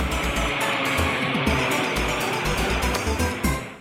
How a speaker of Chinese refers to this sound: 一，一辆卡车。马路上有一辆卡车快速的开过。